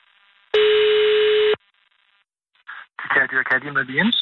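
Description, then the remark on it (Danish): A single steady telephone ringing tone sounds loudly for about a second over a phone line as Radio 24/7 places a call on International Cat Day, followed by a short silence before a voice answers and begins talking. “Jeg ringer, fordi det er jo kattens internationale kattedag.”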